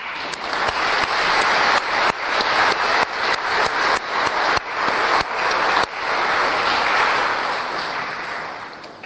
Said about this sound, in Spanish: Por eso por haber hecho este sacrificio, venir aquí, muchos de ustedes la segunda misa, les agradezco. Un aplauso por ustedes.